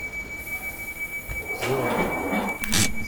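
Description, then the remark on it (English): Train doors slide shut on a test track at a simulated passenger platform with a burst of hiss and clatter, while a steady high warning tone rings throughout over low rumbling rail ambience. No one speaks. “This train is ready to depart. Please stand clear of the doors.”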